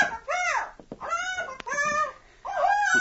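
A bird named Skipper, belonging to the Captain, calls in three loud, squawking bursts with rising and falling, nasal tones, separated by brief pauses and with no talking over it.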